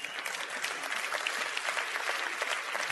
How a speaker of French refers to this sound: Vous pourriez vous applaudir rien que pour ça quand même.